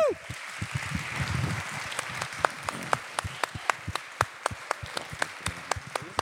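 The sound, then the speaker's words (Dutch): An audience applauds to welcome the next guest, a dense burst of clapping at first that gradually thins out into scattered, distinct individual claps, with faint crowd voices underneath early on. “mag ik graag jullie applaus voor ons volgende gast, alsjeblieft.”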